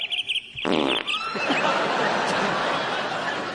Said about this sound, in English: that has now been gassed, effectively, by the fart